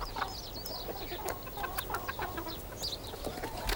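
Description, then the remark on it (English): Several chickens cluck and murmur in short, scattered bursts, a steady barnyard chatter running throughout with no voices present. “sits and sews in a drab room, chickens at her feet.”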